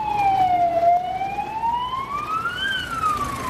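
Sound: emergency vehicle siren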